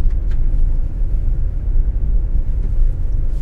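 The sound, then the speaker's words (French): A steady low rumble of a car driving on the Route forestière de la Reine, a forest road near Fontainebleau with many fallen branches on it. Deep road and engine noise holds constant throughout, with no voices. “Là, nous sommes sur la route forestière de la Reine.”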